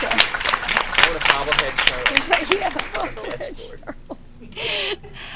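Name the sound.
round of applause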